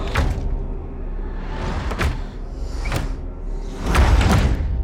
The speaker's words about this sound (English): In the hallway, where all the rooms were barricaded, the open doors now swing closed, one by one.